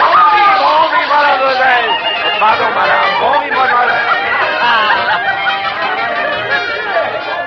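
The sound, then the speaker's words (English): A dense crowd on the opening day of the Great Paris Exposition in Paris murmurs and chatters continuously, many overlapping voices blending into a loud, steady babble with no single speaker standing out. “We pushed our way through the crowds to our hotel, L'Hôtel Marquis.”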